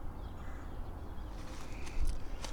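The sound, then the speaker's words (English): A few sharp, high woodpecker calls, several woodpeckers calling to each other, spaced irregularly over a steady outdoor rumble, with no one speaking. “These woodpeckers are talking to each other.”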